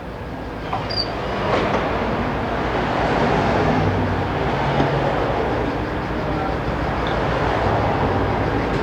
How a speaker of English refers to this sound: Alright, well, once we let this traffic get by me coming from the north to the south